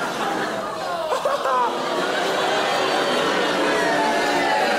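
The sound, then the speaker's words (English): An audience boos in a loud, sustained, overlapping crowd groan lasting several seconds, mixed with scattered laughter and chatter, with no single voice standing out. “What are you booing?”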